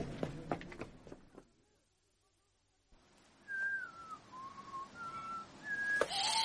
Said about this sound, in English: Whistle the Star-Spangled Banner